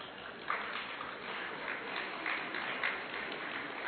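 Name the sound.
audience clapping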